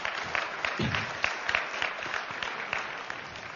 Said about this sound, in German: könnt ihr ruhig mal klatschen, das ist wirklich.